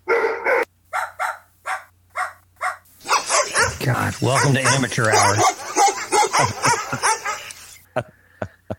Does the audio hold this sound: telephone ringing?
no